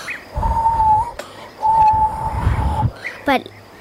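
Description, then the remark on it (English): Someone whistles two long, steady notes, imitating a rooster, each held for about a second with a short gap between, then gives a quick rising chirp. The whistling is fairly loud. “Like, he is whistling like this, but I'm not very good.”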